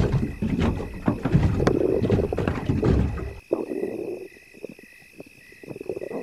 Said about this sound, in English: Well, here we are. Come on, get in the boat. I'll pay for the ride. My treat.